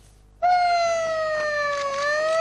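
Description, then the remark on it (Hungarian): A loud alarm siren switches on abruptly and holds a steady, rich harmonic tone that glides slightly lower then rises again, sounding continuously with no talking. It is a scramble alarm during an exercise at the Kecskemét air base, where Gripen fighter jets are readied. “Alfariasztás gyakorlat a kecskeméti légibázison.”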